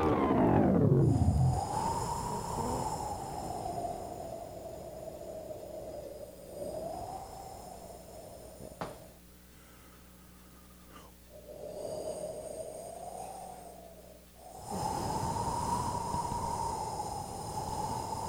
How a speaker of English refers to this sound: Is that the sound of the blizzard or is that the sound of WTNT signal? That's the sound of my lungs. Okay. It's a breathing machine.